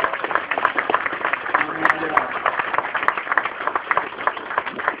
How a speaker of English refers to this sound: All right, let's give all of our Ignite speakers a big round of applause.